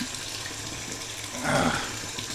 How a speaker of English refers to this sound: But one thing Pippa does hate, she'll get up here on the edge of the tub and sit here with me as the tub fills up. But if one drop of water splashes up and hits her, she'll go running out of the bathroom.